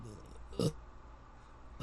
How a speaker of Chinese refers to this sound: 他一直不承认他有吃东西，他现在就吃东西，他吃太饱了打嗝。我刚刚就说他吃东西会生痰会，就他现在就打嗝。